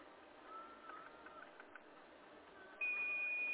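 A few faint clicks as the Set button on a car's steering wheel is pressed three times against a quiet hiss, then a loud, steady, high-pitched electronic beep starts and holds to the end. No one speaks.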